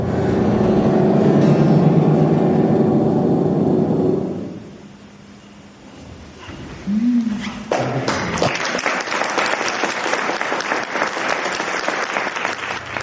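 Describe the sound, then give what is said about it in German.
A low, dense rumble fades out, then after a brief lull an audience breaks into steady, loud applause after a performance of Der Schneekristall, a piece composed after a poem by Ulm author Anneliese Merkel, a crisp wash of many hands clapping that carries on to the end. “Wunderbar, mit dem Applaus gehen wir jetzt aus der Nummer raus.”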